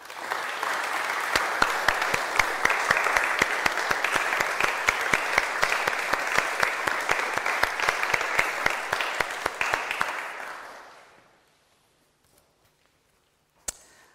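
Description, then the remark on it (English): A crowd claps steadily for about ten seconds, a dense crackle of many hands in appreciation of people thanked for leading ministries, that fades out, followed by near silence and a single sharp knock near the end. “Why don't we give a round of applause to show our appreciation?”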